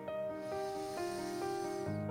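A long, steady, strong deep inhaled breath, taken in a breathing exercise, hisses through the whole clip, layered over soft sustained musical chords that shift every half second or so. No one speaks.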